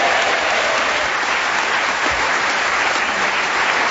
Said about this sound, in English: And Paul Merton, out in the lead, a triumphant first. A round of applause for Paul Merton.